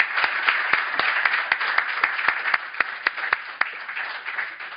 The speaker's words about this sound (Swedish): Ett stort tack till panelen, var den applåden, och ett stort tack till er att ni kom.